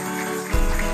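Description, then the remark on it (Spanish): A church audience applauds the group of actors and actresses of a Christmas play, a dense wash of many hands clapping together, growing a bit louder and fuller about halfway through, with no voices standing out. “Iglesia, le presento al grupo de actores y actrices que ustedes vieron. Denle un fuerte aplauso.”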